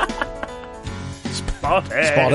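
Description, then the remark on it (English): Sheep bleating, a few loud, quavering bleats that grow stronger toward the end, with a faint murmur of other sound underneath at the start. “Davey says he spotted Callum Best herding a bunch of sheep into a car wash.”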